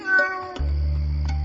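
A cat lets out a single clear, drawn-out meow, then a low, steady rumble takes over for the rest of the moment, with no one speaking.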